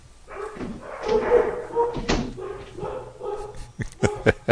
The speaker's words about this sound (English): Is that Buddy the internet dog?